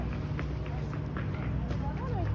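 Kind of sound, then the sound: animal, horse galloping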